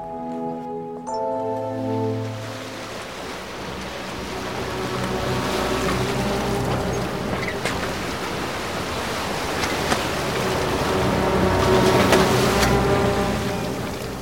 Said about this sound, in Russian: Волны вставали высоко, ржавые и бурные. Небо над флотилией то гасло, то озарялось белым светом молнии.